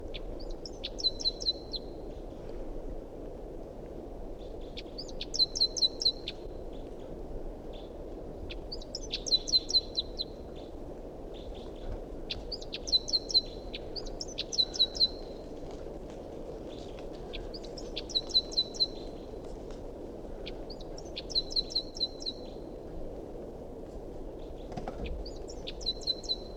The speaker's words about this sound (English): Recording a wild bird.